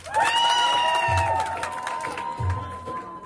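An audience bursts into applause with cheering, a steady high whistle-like tone running over the clapping, which stays loud and fairly even throughout before easing slightly.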